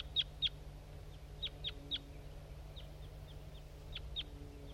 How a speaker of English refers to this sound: Okay, there's some crossbills around now. Wild birds. That's a male that was singing on its way in.